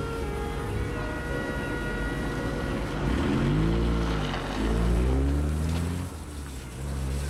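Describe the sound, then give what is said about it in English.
The engine of the detectives' car rumbles low and steady as the police car rolls slowly by. Its drone swells and shifts in pitch midway before easing off, with no talking. “Easy holds the gaze of one of the cops as they slowly drive by.”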